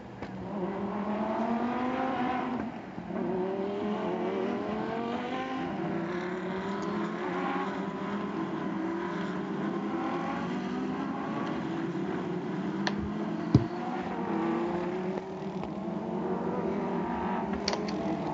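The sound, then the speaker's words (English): A field of race cars streams out behind the safety car on a racetrack, engines droning steadily, their overlapping tones rising and falling in pitch at moderate volume, with no voices heard. “Field now heading out.”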